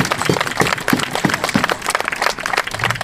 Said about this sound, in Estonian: Tehke üks suur aplaus võidumehele.